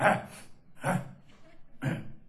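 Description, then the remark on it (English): A man's voice imitates another man clearing his throat: three short, gravelly bursts spaced about a second apart, moderately loud, with no other sounds around them. “Clearing his throat, reaches down there with, pulls out a fresh toothpick because he didn't smoke out of the little ashtray.”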